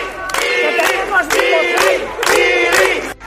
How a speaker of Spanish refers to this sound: Y a partir de ahí, a la salida, un grupo de vecinos, numeroso grupo de vecinos, arropando con aplausos y palabras y mensajes cariñosos a la salida ya alcaldesa saliente.